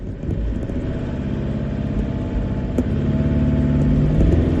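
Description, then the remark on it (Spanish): A car engine revs hard at full throttle under heavy load while towing a van stuck in ice with a tow strap, a loud, sustained low growl that climbs slightly in pitch, with no talking. “Ahí está a tope el motor y nada, pues le sacamos.”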